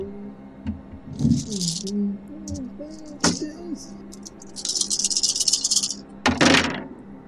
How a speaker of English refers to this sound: Oh. That's a lot of dice. Oh.